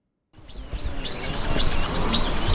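Outdoor ambience at an idle gold mining site at the foot of the Atewa Forest Reserve in Ghana's eastern region, with excavators standing still: several birds chirping and calling repeatedly in high, looping tones, and insects, over a steady low rumble of background noise, no voices present.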